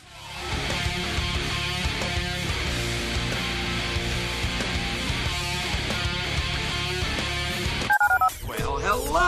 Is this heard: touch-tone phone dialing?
yes